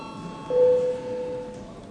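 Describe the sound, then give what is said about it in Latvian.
A parliament voting bell in the Saeima, rung to call a vote on sending a bill amending the Cabinet of Ministers Structure Law to the legal committee, sounds once as a steady, mid-pitched electronic tone that rings for about a second and then fades, with no one talking over it. “Lūdzu balsošanu, lūdzu zvanu.”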